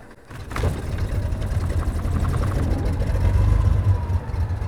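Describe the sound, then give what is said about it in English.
A small propeller plane engine coughs to life and settles into a steady, loud, low rumbling drone as the plane taxis to the runway at Lewiston under bright blue skies with puffy clouds, with no voices. “It's bright blue skies with puffy clouds as craft starts up the engine and taxis over to the runway.”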